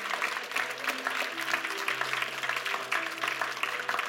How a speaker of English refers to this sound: Give the Lord a hand clap if you can. Come on, you can do better than that.